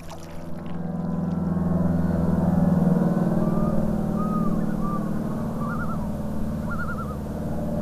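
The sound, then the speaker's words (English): A small plane's engine drones as a low, steady hum with a buzzing harmonic texture, holding fairly even throughout, as the plane leaves a tundra landing spot by a partly frozen lake and disappears over the horizon. Faint wavering, warbling calls rise over it near the end. “As I watch the plane disappear over the horizon, the sound of the plane's engine is slowly replaced by the hum of mosquitoes.”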